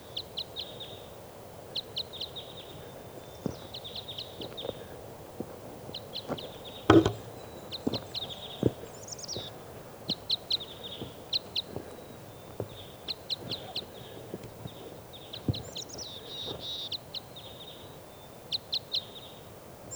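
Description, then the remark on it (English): Type 5 crossbill calls recorded at 5:07 a.m.: short, sharp, high-pitched notes repeated in quick clusters of two to four throughout, over scattered soft clicks and taps, with no talking. “recording our crossbills here now. It's 5:07 a.m. It's on like type 5s.”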